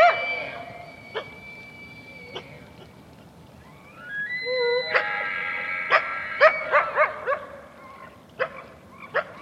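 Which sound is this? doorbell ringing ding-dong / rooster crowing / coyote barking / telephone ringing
coyote barking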